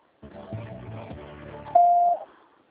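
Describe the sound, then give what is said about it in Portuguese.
A single steady electronic beep, the voicemail tone before recording on a phone call forwarded to a message box, sounds loud and clear for about half a second after a stretch of muffled, busy background noise, then it cuts off into near silence. “Sua chamada está sendo encaminhada para a caixa de mensagens e será sujeita a cobrança após o sinal.”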